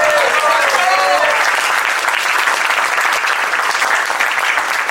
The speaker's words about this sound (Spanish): Así que un aplauso fuerte para ellos también.